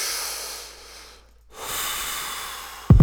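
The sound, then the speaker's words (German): A person smoking a cigarette outside the door draws in an airy breath and slowly lets it out, a brief pause, then a long hissing exhale, ending in a sudden low thump. No one speaks. “Doch bevor ich rappe, geh ich erstmal vor die Tür und rauche eine Zigarette.”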